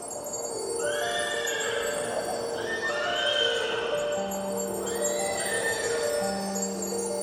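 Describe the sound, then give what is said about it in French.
Several horses whinny in overlapping, rising-and-falling neighs, repeated every second or two over a steady rushing background, with no voices. “comme des chevaux blancs. Non, pas des chevaux. Des licornes.”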